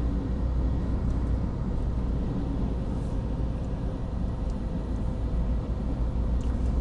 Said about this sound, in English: But I'm doing 110, so I'm safe on cruise control.